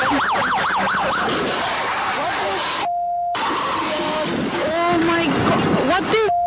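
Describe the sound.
A police car drives at 80 to 90 miles an hour straight into a barricade. Its siren wails up and down near the start, over loud, chaotic street noise and shouting voices, with a brief electronic tone cutting in midway and again at the end.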